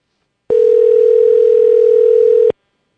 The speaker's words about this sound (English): See, he's not answering my call.